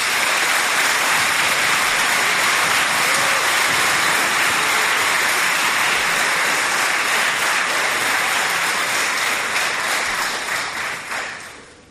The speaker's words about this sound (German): Ganz herzlichen Dank für die Konfirmandinnen und Konfirmanden. Ich denke, da wäre jetzt mal ein kleiner Applaus fällig.